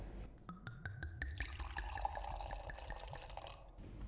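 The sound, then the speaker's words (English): Wine, Chateau Marcon Grand Vin, pours into a tasting glass in a steady, bubbling stream, its pitch rising slightly as the glass fills, after a few quick clinks at the start. No one speaks. “Here, I even brought you a glass for tasting.”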